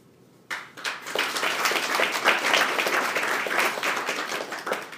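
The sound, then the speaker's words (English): After a speech, an audience breaks into sustained applause for themselves after a brief quiet moment, many hands clapping in a dense, steady roar that holds loud for several seconds without easing. “How about a round of applause for all of us?”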